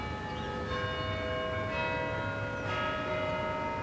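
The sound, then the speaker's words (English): The bell of Big Ben, the four-sided clock in London, chimes, its deep strokes landing roughly once a second, each blooming into long, ringing overtones that overlap over a steady low rumble. No one speaks. “First stop, Big Ben.”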